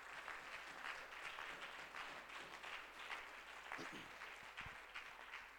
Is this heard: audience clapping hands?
yes